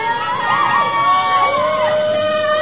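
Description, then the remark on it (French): The audience of a broadcast show cheers wildly in a loud, continuous roar, with high whoops and shouted voices rising and falling over the dense wash of noise for the whole stretch. “Et il y avait le public. En folie, c'est ça.”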